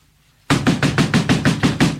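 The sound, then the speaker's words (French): Loud, heavy pounding on a door, a rapid steady series of about eight booming knocks that begins abruptly after a brief silence and continues insistently and forcefully. “Ça doit être un poids lourd qui frappe à la porte.”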